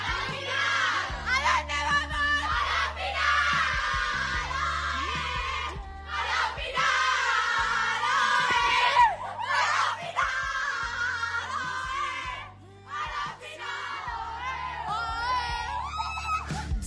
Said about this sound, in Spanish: Las que gritan eufóricas como locas son las chicas de la selección española de fútbol femenina sub-17, la banda de los brackets, porque son todavía unas jugadoras en edad juvenil que lo están haciendo tan increíble